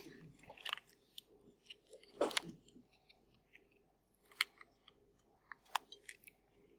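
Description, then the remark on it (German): Handling noises from a small plastic presentation clicker that was dropped and stopped working: scattered sharp clicks and taps, with a louder clatter in the middle and a few crisp snaps afterward, over quiet room tone. “Tut mir leid, mein Klicker hat gerade aufgegeben, beziehungsweise ich habe ihn runtergeschmissen.”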